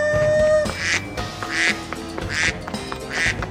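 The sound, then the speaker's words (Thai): A duck quacks four times in a steady, evenly spaced rhythm, each quack loud, with soft sustained musical tones underneath. “ในที่สุดในขณะที่เจ้าเป็ดน้อยกำลังวิ่งหลบอยู่นั้นเจ้าเป็ดน้อยก็ได้ค้นพบคุณค่าในสีขนของมัน”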